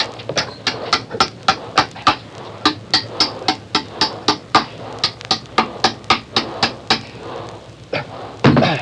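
Hammering nails the steering chain to a bulkhead, a long run of about two dozen sharp, loud blows in a quick, steady rhythm of roughly three per second, with no voices, ending in a heavier burst.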